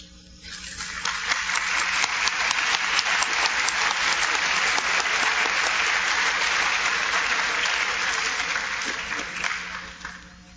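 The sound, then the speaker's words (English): An auditorium audience breaks into applause for the Booster Club executive board and sport directors, a dense, steady wash of many hands clapping that swells within a second, holds strong for about eight seconds, then tapers off. “I know some of them may be still be in the cafeteria, but if you're in the auditorium, please stand so we can give you a round of applause.”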